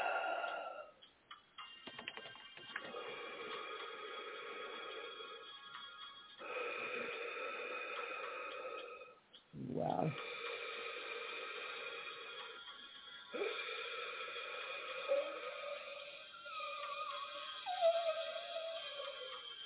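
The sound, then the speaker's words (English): Heavy, wheezing breaths drawn in long, strained pulls, each one whistling and rasping for several seconds, repeated about five times with no talking. “Get your inhaler, man. You sound like you need it.”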